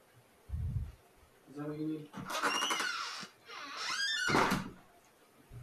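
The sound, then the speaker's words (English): A door rattles and scrapes open to put a cat outside, then bangs shut a moment later, with a low thud at the start and a brief muffled voice between the door sounds. “He just threw the cat outside.”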